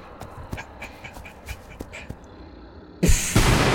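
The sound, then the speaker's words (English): A double-bladed lightsaber slices a door in two. After a few seconds of faint scattered clicks and taps, a sudden loud, harsh sizzling burst erupts near the end and holds, intense. “Hear the door behind you get sliced in two by a double-bladed lightsaber.”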